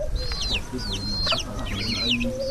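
A flock of chickens clucks and chatters busily at close range, with repeated short rising and falling calls overlapping over a steady low outdoor background.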